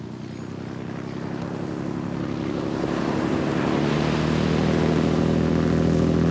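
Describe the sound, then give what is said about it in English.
A steady engine drone of a boat carrying a group of people on a snorkeling tour moving over water, with waves washing and wind rushing past, growing slightly louder over the few seconds; no voices. “The next day, we find ourselves standing side by side on a boat ready for an adventure, surrounded by a group of people and our snorkeling tour guides.”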